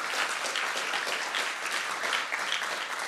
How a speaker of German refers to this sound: Und ihr dürft euch mal selber einen Applaus geben. Ich finde es echt Hammer, was ihr hier auf die Beine gestellt habt.